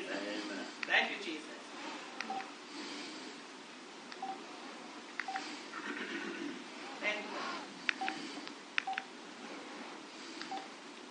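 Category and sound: signal or alarm, telephone keypad dialing tones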